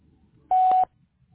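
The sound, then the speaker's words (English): A single short electronic beep, a steady mid-pitched tone lasting about a third of a second, sounds alone against faint background hiss, like a voicemail prompt signalling recording has begun. “Leave a message with the beep and I'll get back to you as soon as I can.”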